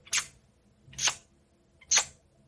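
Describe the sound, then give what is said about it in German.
A voice imitates the soft ticking of a colorful Swatch watch: three short, crisp smacking clicks about a second apart, kiss-like and fairly quiet, with no speech alongside. “Ja, die hat so leise getickt und dann, das klang immer wie so ein Kussgeräusch.”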